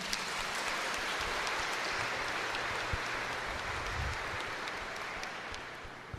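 A crowd applauds steadily for about six seconds, a dense, even wash of many hands clapping that tapers slightly toward the end, with no voices heard.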